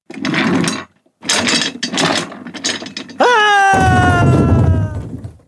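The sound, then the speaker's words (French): A cartoon-style fall of the boss taking a tumble while doing stunts on a chair: three rattling, clattering bursts, then a loud crash with a tone sliding slowly downward through it, ending abruptly. No one speaks. “Oh oh, le chef s'est pris un gadin, dit Lolo le doigt levé vers le plafond.”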